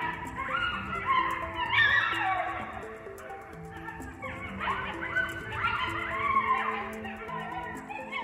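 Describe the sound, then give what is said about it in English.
A chorus of coyotes howling and yipping, several high wavering voices overlapping in a continuous, rising-and-falling tangle of cries that carries on steadily throughout, with no one talking. “And when we hear them howling at dusk, it's easy to believe that there are dozens nearby, when in reality, it's probably just a few.”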